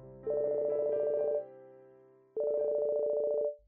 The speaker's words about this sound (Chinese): 一阵手机的铃声响起。